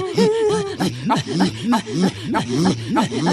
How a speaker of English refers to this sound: Now, that sound is not what you think it is. It's actually part of a kind of a religious chant done by the Inuit. Inuits. Oh. And this happened to be up in northern Canada.